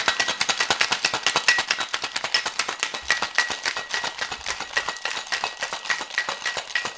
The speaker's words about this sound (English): And now I'll add ice to it and shake it some more for a good long time, because I want to make sure it gets good and frothy and mixed.